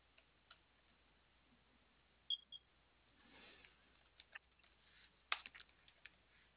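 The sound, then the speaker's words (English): Soft, irregular computer keyboard and loud mouse clicks and taps from someone processing a refund during a phone call, scattered in small clusters with pauses between them, over a quiet low hum and no talking. “Okay, I can hear you clicking.”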